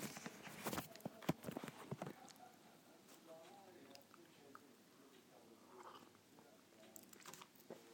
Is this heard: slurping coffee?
yes